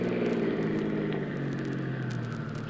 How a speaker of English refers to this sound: Bad we took this car. It hasn't got much guts.